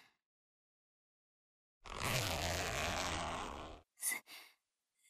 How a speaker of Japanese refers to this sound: チャックを下ろしただけなのに